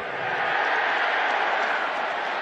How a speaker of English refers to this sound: I don't know what Illinois is cheering about.